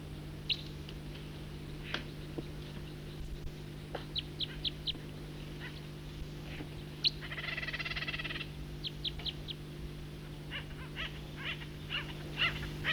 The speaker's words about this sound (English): Stop. It's a recording flight call of a bird.